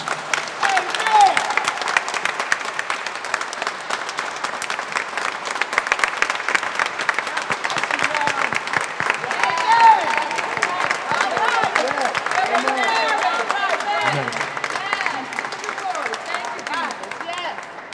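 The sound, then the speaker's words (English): A church audience breaks into sustained, steady applause for a man about to be ordained in holy orders, many hands clapping together at a fairly loud, even level for a long stretch, with faint voices mixed into the crowd noise. “You're going to take your applause and act it out because I want this church full on Pentecost Sunday.”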